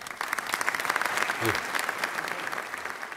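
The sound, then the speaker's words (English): A crowd bursts into sustained, thunderous applause, dense rapid clapping that stays loud and steady for a few seconds without letting up, with a brief low voice briefly audible beneath it. “Doctors say if ordinary gonorrhea is the clap, this strain is a standing ovation.”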